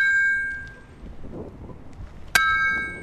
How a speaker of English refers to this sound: One of the grad students on Holbrook's team generates seismic waves by slamming a mallet onto a steel plate on the grass.